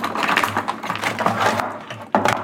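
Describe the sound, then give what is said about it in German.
Crinkly snipping and rustling as scissors cut open a package, a busy run of small crisp clicks with a sharper cut near the end, no voices. “Wollen wir das mit einer Schere aufschneiden?”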